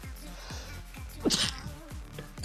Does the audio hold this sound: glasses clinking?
no